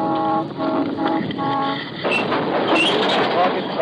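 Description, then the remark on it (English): A San Diego and Arizona Eastern Railroad freight train in Imperial Valley rolls by, with a sustained tonal squeal or horn-like whine in the first half, then a broad hiss and clattering rumble as it slows to stop for Border Patrol inspection. “When the Border Patrol signals the engineer, he stops for inspection.”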